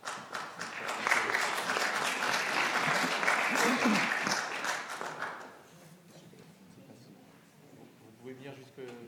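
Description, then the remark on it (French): An audience applauds loudly for people who took part in a film as they are invited up for a debate, a dense steady patter of many hands for about five seconds before it fades; a man's voice briefly begins speaking near the end. “si vous voulez venir nous rejoindre, aussi pour vous applaudir”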